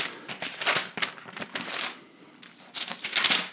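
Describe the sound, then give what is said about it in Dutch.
Thin pages of a Bible rustle and flip in quick succession, a crisp papery crinkling that swells and fades in bursts, as someone leafs back a few pages. “ik zit nu in Filippenzen nog, maar Paulus die bijvoorbeeld in Romeinen 12, een paar bladzijden terug, Romeinen 12”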